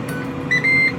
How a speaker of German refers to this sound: Und ihr habt's gehört, so hört sich's an, wenn er fertig ist. Man hört das Piepen, der Timer ist jetzt durch. Er lüftet noch ein bisschen nach, wie man hört. Es geht in ein paar Sekunden aus.